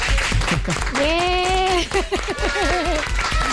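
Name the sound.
studio audience applause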